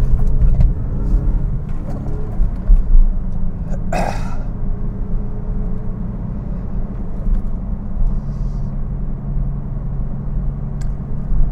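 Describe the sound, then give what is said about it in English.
A car engine drones steadily, its low rumble holding through the whole stretch with small swells in pitch as the driver takes a corner at a roundabout in second gear, left-foot braking; no one speaks. “Just let me make one more corner here, and then I will continue my discussion. Second gear.”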